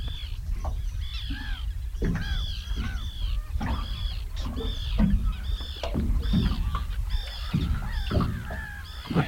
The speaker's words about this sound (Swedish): Nu kom det en till med löja i näbb. Men det där var en vanlig fisktärna. Jag måste nästan lyssna lite bara på det här fina ljudet.